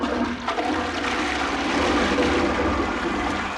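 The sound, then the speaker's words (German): A toilet flushes with a loud, steady rush of churning water that holds for a few seconds without fading, a broad roaring wash with a low rumble beneath. No one speaks. “Ich lese einen und gehe jetzt endlich auch aufs Klo.”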